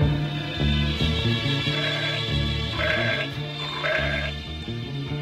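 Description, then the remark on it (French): A goat bleats in wavering, quavering cries, a couple of loud bleats rising over a steady, rhythmic musical backing with a low repeating bass pulse. “Guitare de ménestrel, rock'n'roll, pchit de musique de chambre qui a l'air sorti d'un gramophone, et puis une chèvre.”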